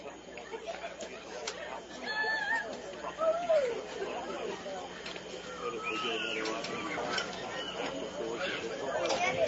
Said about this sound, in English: And I'll tell you, nobody loves it more than this Washington County crowd that I have to my left. They're making plenty of noise, making sure that their girls know that they're here in support of them and loving the fact that they just took the lead